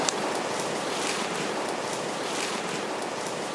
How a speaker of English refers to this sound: We know they crossed the Urubamba River, so we descend down into the valley. Hey, guys, I can hear the water. I think we're getting down to it.